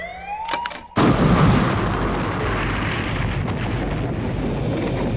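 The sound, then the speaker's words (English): A rising electronic whine cuts off into a sudden, massive explosion that tears a hole across the Triad fleet of ships, erupting at full loudness, then rolling on as a dense, sustained roaring rumble with crackling debris. No voices. “The explosion lit the sky, tore a hole across the Triad fleet.”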